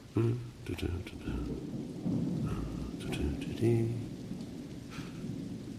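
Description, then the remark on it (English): Steady rain falls outdoors with a broad hiss, punctuated by low rumbling thunder and scattered drips and splashes, continuing throughout at moderate loudness, as a person in a raincoat walks in the rain to get a newspaper. “Walking in the rain.”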